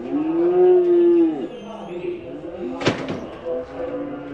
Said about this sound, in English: At the Baylog auction here in Lethbridge, 1,200 head of cattle are being herded through pens toward the sale floor. Baylog's is just 50 miles north of the border in the heart of what the locals call Feedlot Alley.